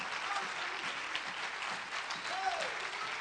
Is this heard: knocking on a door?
no